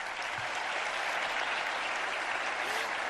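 Sustained audience applause at the International Congress of the Spanish Language, for Paco Cano for coordinating the work, a dense steady wash of many hands clapping at once, fairly loud and even throughout with no voices standing out.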